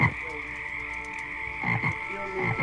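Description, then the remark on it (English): Nighttime tree frogs croak in a steady chorus, a constant high trill layered with bursts of rhythmic croaking that pulse in and out, with no voices, played as part of a soundtrack of nocturnal sounds in a dome exhibit. “Maybe it's because this is my second time, or maybe it's because of the strangely comforting sounds of nighttime tree frogs.”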